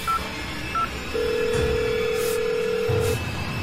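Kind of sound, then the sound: signal or alarm, phone keypad dialing tones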